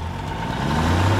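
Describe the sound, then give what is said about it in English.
A car engine hums with a steady low rumble, building slightly in loudness over a brief moment as if pulling away. No voices are heard. “They're getting in their car now.”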